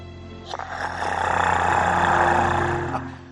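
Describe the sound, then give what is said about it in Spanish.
A person imitates an elephant, giving the kind of sound made to calm charging elephants: one long, low rumbling roar that swells and holds for a couple of seconds before fading, with a rough, growling texture and no speech. “Cuando los elefantes cargan, les hablo en voz baja o hago un sonido de elefante similar a este.”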